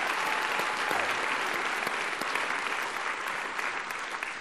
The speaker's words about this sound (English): So can we give her a round of applause as well, too?